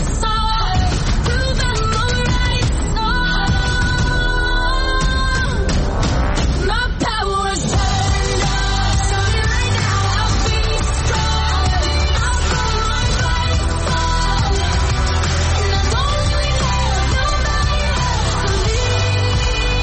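A pop song plays loudly and continuously for the whole stretch, a sung melody riding over a full band with a steady low bass line.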